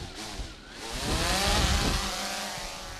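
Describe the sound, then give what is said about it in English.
A drone launched by a whale research team gives a steady mechanical whir of small motors that swells and climbs in pitch around the middle, then holds as a loud, continuous buzz over background noise, with no talking. “Using a drone, they go beyond what you can see from a boat and into new research territory.”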